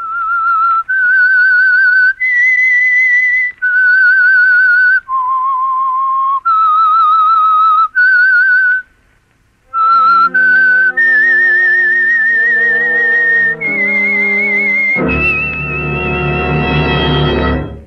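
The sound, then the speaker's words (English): A lone whistled melody, the signature theme of the Household Finance Corporation radio program The Whistler, of clear, pure sustained notes rises and falls in a slow tune, then gives way to a full orchestral chord swelling at the end. “That whistle is your invitation to listen to the Household Finance program, The Whistler.”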